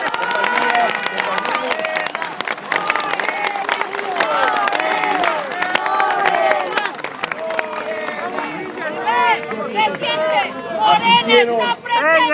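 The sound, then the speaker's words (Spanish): A crowd of several thousand people applauds and cheers loudly, dense clapping mixed with overlapping shouts and excited voices, sustained throughout, with rising whoops and yells toward the end. “Así de que un aplauso fuerte para todos.”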